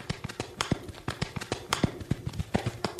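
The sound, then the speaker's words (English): Horse hooves galloping at a quick, steady clip as a horse is ridden furiously toward the headquarters of the Canadian Mounted Police, sharp hoofbeats landing in rapid uneven pairs, fairly loud throughout with no voices over them. “Together we will ride to go help him. Come, horse.”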